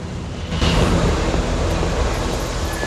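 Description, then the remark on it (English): A steady, loud rumble of a train rolling past on a railway beneath a bridge, swelling sharply after a brief quieter start and then holding a broad, continuous roar with rattling texture; no voices. “strolls across a bridge as a train rolls past on the railway underneath.”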